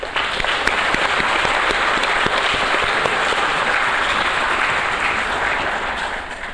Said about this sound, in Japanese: では皆様どうぞ大きな拍手でお迎えください。